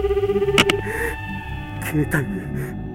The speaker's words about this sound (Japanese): うわっ、着信きたよ。絶対今出たくないんですけど